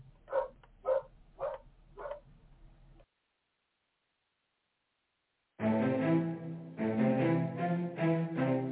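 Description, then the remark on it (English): Four sharp, evenly spaced dog barks sound over a low background hum, then a pause of silence before loud, full music begins. “Oh my goodness, these dogs.”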